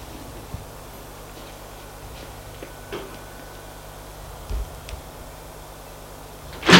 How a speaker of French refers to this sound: La porte s'est ouverte